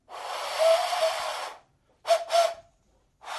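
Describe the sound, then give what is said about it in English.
An airy, breathy whistle made from a turnip, its faint wavering tone buried in rushing air: one long blow, a pause, two quick short blasts, then another starting at the end. No one speaks. “And this is your second, a whistle made from a turnip.”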